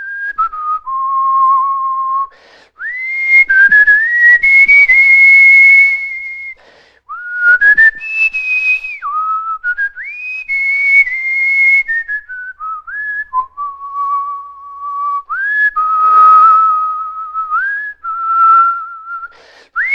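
A person whistles a song melody solo, with clear sustained tones sliding between pitches in a steady tune, fairly loud, with brief breath gaps between phrases.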